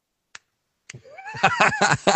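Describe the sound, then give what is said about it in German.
Two sharp, isolated snapping hand sounds, then a rising tone that runs into a rapid series of rhythmic voiced bursts, loud and bright, with no clear words: the 'Frankfurter Applaus' (Frankfurt-style applause) hand gesture. “Ja, da fehlt nur noch der Frankfurter Applaus, habe ich letztens gehört.”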